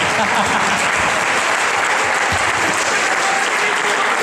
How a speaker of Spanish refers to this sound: ¡Ay, bien! ¡Están despiertas! Un aplauso para los adolescentes.